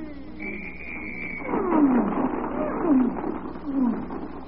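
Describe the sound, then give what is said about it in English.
Queenie, a circus star elephant, trumpets: a thin, held high blast, then three loud, rough calls that swoop downward in quick succession, with no one talking. “Ladies and gentlemen, the Star Lady Elephant, Queenie!”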